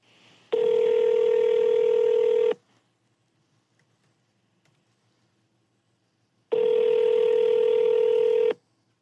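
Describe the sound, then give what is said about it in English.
Two long electronic ringback tones sound through a phone line on a call placed from a borrowed phone to a Bigfoot research organization, each about two seconds, separated by a silent pause of several seconds, with no one picking up. “We will get them on the line. Uh-huh. We got them on the line right now.”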